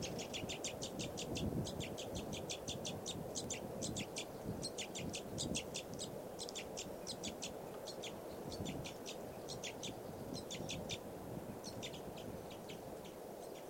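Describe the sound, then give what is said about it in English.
A bird chirps rapidly and repeatedly in short, high-pitched bursts, grouped into quick runs that continue throughout, over a steady low rumble of background noise. “That bird just flew over there.”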